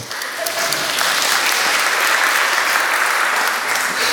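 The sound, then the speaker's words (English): A church crowd bursts into sustained applause for a couple's first wedding anniversary, dense clapping from many hands that stays loud and steady for several seconds without any speech over it. “It is worth clapping.”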